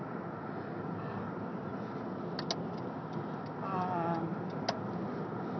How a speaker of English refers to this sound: As you can tell, I'm driving around in my car, because that's the only privacy I have today, is in my car.